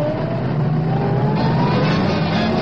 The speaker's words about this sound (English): Oh, look at that traffic. We'll be ages still.